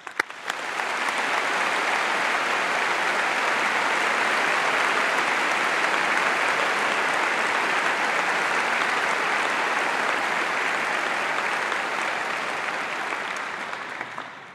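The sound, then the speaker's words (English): A large crowd applauds the graduates at a degree ceremony steadily for about fourteen seconds, a dense, even wash of clapping that swells in quickly, holds at a loud level, and tapers slightly at the end. “I invite the audience to give all of our graduates a round of applause.”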